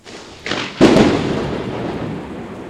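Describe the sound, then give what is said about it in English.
A loud thunderclap cracks suddenly after a brief rising rumble, then rolls on as a broad, sustained roar that slowly fades. No one speaks. “Some of you guys that are listening at work right now are probably just getting PTSD with these lightning.”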